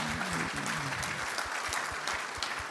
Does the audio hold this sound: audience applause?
yes